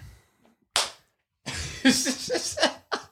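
One sharp, loud hand clap, made to sync a recording, rings out in a quiet moment, with a quick decay, and soon after, breathy voices and what sounds like laughter follow.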